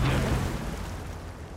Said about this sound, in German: Um das Boot herum schwimmen zwei Orcas. Und auf die beiden Orcas wurde Sprengstoff, Dynamit, Böller, verschiedene Sprengsätze geschmissen. und die dann laut explodiert sind.